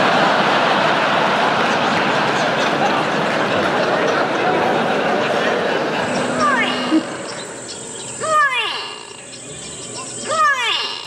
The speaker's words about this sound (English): It was actually the grey go-away bird.